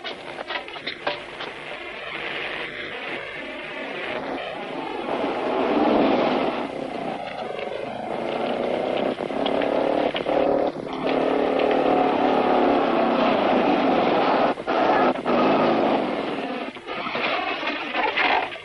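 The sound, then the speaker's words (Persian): A rough-running car engine sputters and stutters with uneven bursts, its steady mechanical drone fairly loud, faltering and shutting off as the broken-down engine dies. “خاموش کرد جناب سروان، موتور داغون شده، باید پیاده بریم.”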